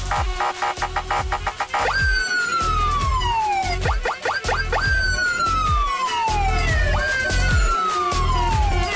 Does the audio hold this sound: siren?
yes